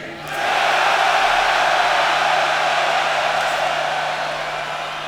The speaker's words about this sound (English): So I'm gonna count to three, and then we would like everyone to make more noise than they've ever made before in their lives, okay? It should be fun. It should be. It's gonna be fun. So take a big breath. Here we go. One, two, three.